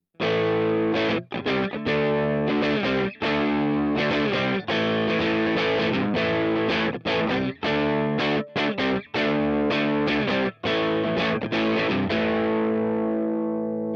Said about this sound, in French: Voilà par exemple comment sonne une empreinte d'un Fender Hot Rod Deluxe sur un son crunch, donc avec déjà un peu de grain.